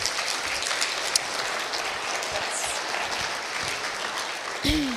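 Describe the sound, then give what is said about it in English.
A crowd gives a little round of applause for a few speakers, clapping steadily for several seconds, a dense wash of hand claps holding an even level throughout, with a brief voice rising near the end. “All right, give these guys a little round of applause.”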